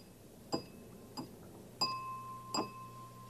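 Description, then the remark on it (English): A crystal drinking glass is tapped four times, each strike ringing out with a clear, bell-like tone that lingers and overlaps the next, fairly soft. “See that drinking glass sounds a little like a bell.”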